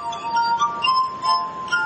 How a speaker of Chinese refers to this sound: 图纳以演奏玻璃琴为生，甚至还和美国顶尖乐团合作过。不过会演奏玻璃琴的人太少了